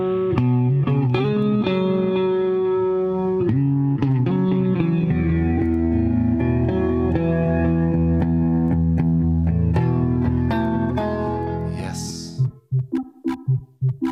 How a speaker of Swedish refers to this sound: Ja, nu kommer elgitarren.